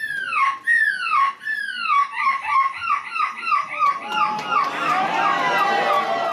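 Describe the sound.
A young boy in a feathered costume imitates seagull screams at a European seagull-screaming championship in Belgium, a quick series of shrill, descending squawks that speed up, then give way to loud, dense crowd noise.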